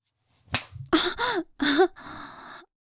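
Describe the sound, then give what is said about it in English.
A single sharp slap of a hand on a bare buttock, followed by several drawn-out wordless vocal sounds from a person, like gasps or moans. “Go ahead. Grab my ass. Slap it.”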